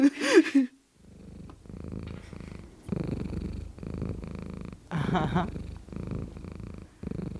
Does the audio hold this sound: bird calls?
no